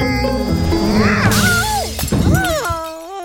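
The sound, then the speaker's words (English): A loud crash as the entire glass ceiling of a greenhouse shatters into tiny pieces, with bright tinkling shards raining down over a few seconds, layered over dense low rumbling and swooping musical tones. “Shattering the entire glass ceiling of the greenhouse into a million tiny pieces.”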